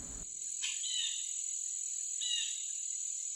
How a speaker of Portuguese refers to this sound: Cri-cri-cri, cri-cri-cri-cri, eu sou um grilo, vou pulando por aí.